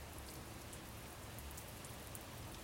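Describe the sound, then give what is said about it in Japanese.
Soft, steady rain patters on an umbrella in a forest, a dense and even hiss of drops with occasional brighter taps, gentle, with no voices. “傘に弾ける雨音が優しいです。”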